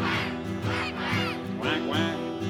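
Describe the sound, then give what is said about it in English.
Several nasal, quacking calls sung in a song by a voice imitating a duck, repeated in a loose rhythm over steady sustained musical tones, fairly loud. “So I turned to those poor little ducks half dead, and these are the words they said: we're all dead ducks. Quack, quack, quack, quack.”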